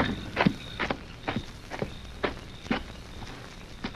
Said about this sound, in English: Golly, there's 2 horses, but no one's on them. No, I guess it... Well, they aren't Silver and Scout.